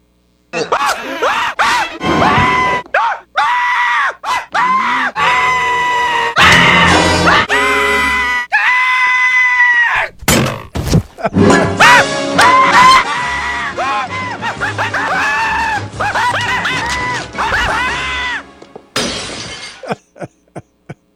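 A voice screams loudly and repeatedly, long wavering shrieks rising and falling over about twenty seconds, with sharp crashing, shattering bursts breaking in along the way.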